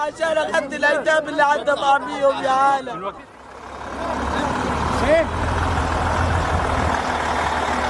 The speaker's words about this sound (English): Lorries move goods that have gone through security checks at Kerem Shalom, Israel's main crossing into Gaza.